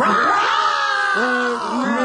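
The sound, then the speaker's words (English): A person imitates a tiger's roar with a loud, drawn-out vocal growl that swells and wavers in pitch, breaking into a second rougher surge near the end, alone. “In the front were the tigers.”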